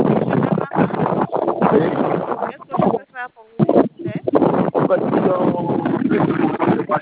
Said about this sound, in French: Regardez, je suis sur la moto. Je suis sur la moto pour une fois.